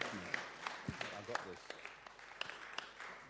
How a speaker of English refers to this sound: So let's give him a round of applause and welcome him tonight in Jesus' name. Amen.